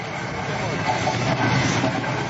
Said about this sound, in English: The sound of the Auschwitz train recreated at the 60th anniversary of the liberation of the death camp in southern Poland last Thursday.